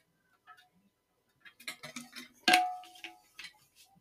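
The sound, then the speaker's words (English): Someone sips water: a run of small wet clicks and gulps, then a sharp clink that rings briefly, followed by a few quieter sips. No one speaks. “Hold on, let me take a sip of water real quick.”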